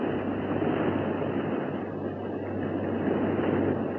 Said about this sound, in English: Water. Water rushing around the elevator shaft. The submarine lock must have broken.